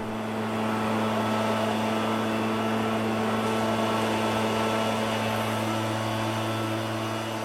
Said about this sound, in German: Heute ersetzt der Laubbläser die vielen Kinder, Onkel und Tanten und Nachbarn.